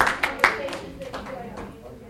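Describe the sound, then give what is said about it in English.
A group of people clap in unison in response to a request to clap twice, a quick burst of two or three sharp, loud claps, then the sound settles into a softer, lingering murmur. “If you can hear the sound of my voice, clap twice.”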